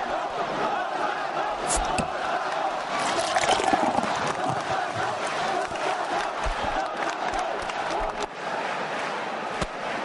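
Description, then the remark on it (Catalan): A crowd of young people in a town square shouts and cheers in a dense, continuous roar, with overlapping voices and sharp bursts of yelling rising above the steady din. “Ara sentim els crits de joves, espereu.”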